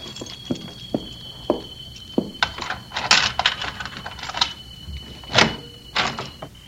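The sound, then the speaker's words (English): Keys jingle and scrape in the lock of a locked door as it is unlocked, giving a scattered run of sharp metallic clicks and rattles at an uneven pace, with a faint steady high whine underneath and no voices. “Oh, locked. Keys.”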